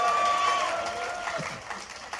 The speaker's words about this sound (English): Oh, you're clapping now. You're clapping now. You won't be clapping in 45 minutes.